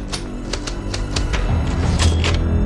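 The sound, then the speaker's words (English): A typewriter clacks out a quick, uneven run of sharp keystrokes, about eight or nine strikes, spelling out a title, over a low, steady rumble that swells slightly toward the end. “A typewriter spells out the title.”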